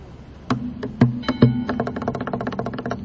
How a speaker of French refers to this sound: Là, j'essaie de me détendre en tapant sur la guitare avec mes doigts.